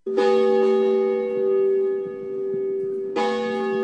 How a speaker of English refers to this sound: Bells ring for the start of the Sunday service at Deerfield's Brick Meeting House, the first official church ever built in the United States.